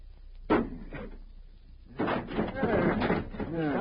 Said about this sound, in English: Put some muscle behind that axe.